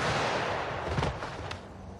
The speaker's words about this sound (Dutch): Sommige ooggetuigen beweren zelfs dat ze haar veroordelaars nog een handkus toewerpt voordat het peloton het vuur opent. Fire!